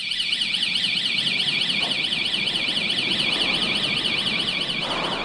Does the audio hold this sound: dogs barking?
no